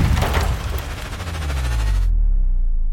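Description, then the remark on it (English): Loud, heavy cannon fire from a ridge: a dense burst of blasts followed by a deep, rolling low rumble that lingers and slowly fades, with no voices. “From the ridge, the cannons return.”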